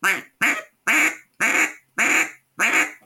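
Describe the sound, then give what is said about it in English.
A duck call blown in six evenly spaced, loud quacks, each a short raspy honk with a clipped end, no voices. “It starts with the quack, and until you can quack on a duck call, you have no business trying to do anything else.”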